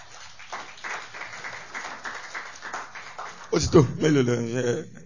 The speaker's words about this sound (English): Can you clap for my wife, please?